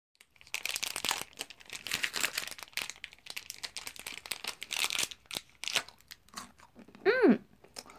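Crunchy food is chewed in a steady run of crisp, crackling bites for several seconds, then a brief hummed vocal sound rises and falls at the end.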